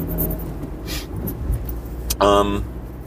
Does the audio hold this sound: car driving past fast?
yes